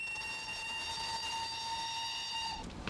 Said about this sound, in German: Warten, 11 Uhr? Wieso fährt der Zug nicht pünktlich ab?